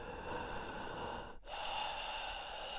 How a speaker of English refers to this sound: The scarecrow was breathing. I will never forget the noise as long as I live. It was a low hiss, like someone was inhaling through a mouthful of hay and cloth.